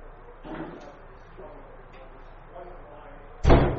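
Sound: door being shut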